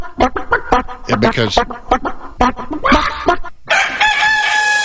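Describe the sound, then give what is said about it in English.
Chickens cluck in quick, choppy bursts, then a rooster lets out a loud, sustained crow that holds strongly until the end. “How would you feel if the people living next door to you decided they wanted to have chickens?”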